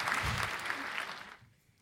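A short burst of clapping, a dense crackle of many hands that stays steady for over a second before fading out quickly to near silence.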